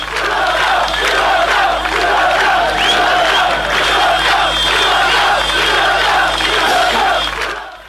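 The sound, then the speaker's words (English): A large, angry crowd of protesters in Croatia shouts and yells continuously while burning Yugoslav flags, a loud, dense roar of many voices that holds steady for the whole stretch before easing off at the end. “That night, Croatia exploded with fury. Crowds burned the Yugoslav flags they saw as a symbol of Serbia.”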